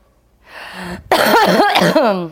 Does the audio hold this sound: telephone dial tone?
no